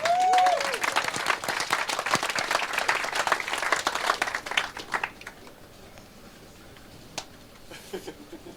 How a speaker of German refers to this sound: Applaus für den Himmel.